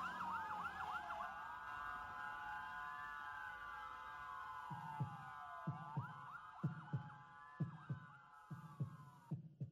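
A steady, thudding heartbeat fades in partway through, its paired low beats pulsing under a wailing emergency siren that rises and falls throughout; no one speaks.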